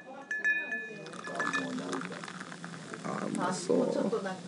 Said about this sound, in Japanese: わあ、ご自分でビール注いで他のお客さんにも勧めてらっしゃる。